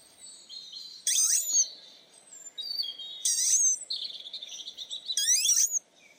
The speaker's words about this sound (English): You are now listening to the sound of a dormouse snoring. This is taken from footage which was recorded locally by Dave Williams from the Surrey Dormouse Group.